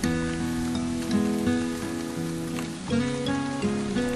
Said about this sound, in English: What I really enjoyed was listening to the sound of rain while sipping tea. Actually, the interesting thing is that the rain is known as a shower, as you don't know when they are coming or going.